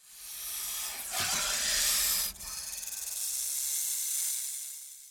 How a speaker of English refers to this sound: Gopher snakes in Arizona are not poisonous, but when frightened, they may hiss and shake their tails like rattlesnakes.